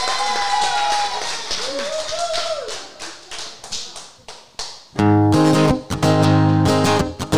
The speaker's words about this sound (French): Bon, on les applaudit bien fort pour les encourager.